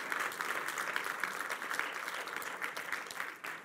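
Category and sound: crowd, audience applauding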